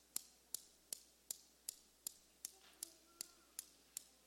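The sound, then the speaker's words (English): Newton's cradle balls clicking in a steady, even rhythm, set off by pulling one ball back and letting it go: about eleven sharp bright clicks, each with a quick decay, over a faint background murmur. “Newton's cradle was an illustration”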